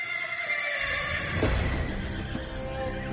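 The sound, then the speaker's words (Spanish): A horse neighs loudly, a long, shaky whinny with a bright, quavering pitch that carries through the whole few seconds, over a low rumble and one brief thud midway. “De entre todas, la más espantosa es la de una siniestra pareja montada a caballo, a veces de aspecto humano, a veces en forma de cadáveres, con la carne hecha jirones, que anticipa con su paso la muerte de algún vecino.”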